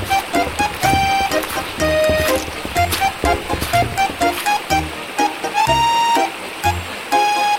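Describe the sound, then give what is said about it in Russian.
A babbling river burbles and splashes steadily throughout, fairly loud, with bright tinkling tones ringing over the running water. No one speaks. “Что эта речка шепчет?”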